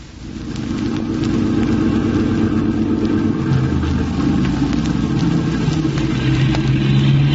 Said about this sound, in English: Did you notice that car? The one that just passed? Yes. It's followed us all the way from my office in the city.